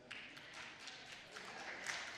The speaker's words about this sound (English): Not all the women are clapping. Told you.